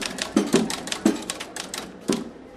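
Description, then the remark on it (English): A mechanical typewriter, controlled by a processor as part of a moving sculpture at a New York City art gallery, clacks away in an irregular rhythm typing the words of a song onto paper, with sharp keystrokes and a few heavier thumps standing out, with no voices. “the typewriter writes out the words of a song onto paper while a drum instrument hits glass and metal objects to create a beat.”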